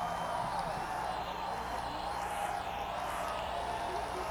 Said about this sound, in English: We are live at the Centrum now. The crowd's starting to kick up in gear.